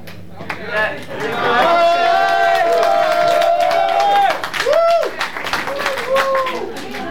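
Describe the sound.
An audience claps steadily for several seconds, a dense patter of hands mixed with voices calling and cheering over the top before the clapping thins out.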